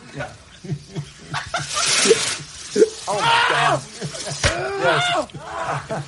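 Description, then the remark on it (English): Panicked, high-pitched screaming and yelping in terror from several people, with the sudden sharp bang of a firecracker explosion cutting through partway, the shrieks continuing loud around it. “It's so great that the screaming sound of terror is louder than even the explosion.”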